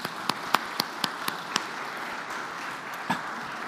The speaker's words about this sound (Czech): blahopřejeme šťastnému tatínkovi, který je zde mezi námi, myslím, že mu můžeme zatleskat.